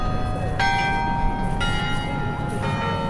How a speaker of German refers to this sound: Ebenfalls Tradition, das Carillon-Konzert im Anschluss auf dem größten Glockenspiel Europas im Roten Turm von 1506. Tagsüber tönen die 76 Glocken regelmäßig.